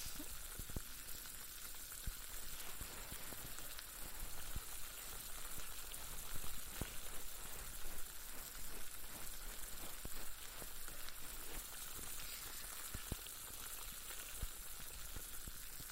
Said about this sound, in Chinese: 相信我的技术，怎么样啊？耳朵里面冒着气泡的感觉，还挺爽的吧？